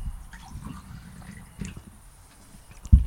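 Water pours into a glass, a soft, steady trickle and gurgle for about three seconds, ending with a brief louder knock.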